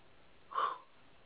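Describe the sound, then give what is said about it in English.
A single sharp, shaky intake of breath, fairly soft, rising and fading within a fraction of a second against a quiet background, with no talking. “hopefully you're breathing and not just losing your cell signal.”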